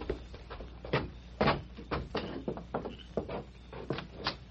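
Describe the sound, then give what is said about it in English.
The back door of a furniture store being opened, with a string of irregular wooden clunks, knocks and rattles over a few seconds, fairly soft and with no voices. “Well, he said he'd leave the back door open.”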